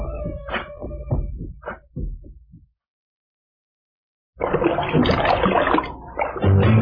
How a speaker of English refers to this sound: …, I was taking a bath long about a Saturday night. Yeah. Rubbed up, just relaxing in the tub, thinking everything was alright.